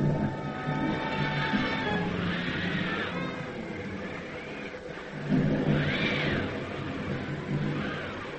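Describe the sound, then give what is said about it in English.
A heavy storm raging at sea off Cape Hatteras, North Carolina, late at night on October 14th, 1927, with a steady roaring rumble and howling, whistling wind that swells and surges in waves, loud and continuous throughout without any voices. “A heavy storm is raging off Cape Hatteras.”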